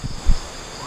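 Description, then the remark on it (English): A steady, high-pitched insect drone hangs over a stiflingly hot night jungle ambience, with a couple of soft low thumps and faint rustling beneath it and no voices. “It's a stiflingly hot night here in the jungle. Do you want to hear the jungle?”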